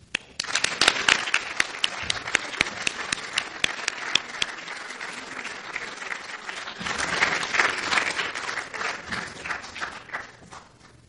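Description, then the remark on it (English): Sustained audience applause for Dr. Becklake and Dr. Julien, named to the Order of Quebec, a dense crackle of many hands clapping at steady loudness for about eleven seconds, swelling slightly near the end before tapering off. “And another round of applause for Dr. Becklake and Dr. Julien, the Order of Quebec.”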